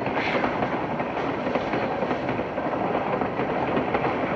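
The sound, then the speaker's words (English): A moving train rattles steadily along the tracks, a loud, continuous rumble with faint rhythmic clacking running through it and no voices, from the film scene where Veronica Lake and her co-star hop a train for the first time. “I mean, we see that at least here when he and when he and Veronica Lake hop a train for the first time.”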